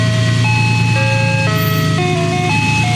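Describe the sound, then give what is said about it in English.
A tinny, electronic ice cream truck jingle from the Special Neat Treats ice cream truck in the Loveland community plays a bouncy melody of steady single notes, loud, over a low engine rumble with no one speaking. “Their son, Josh, explained why the ice cream truck is a big hit.”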